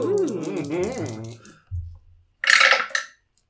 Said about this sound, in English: I improved my deck, so now I get to roll 3 whole dice.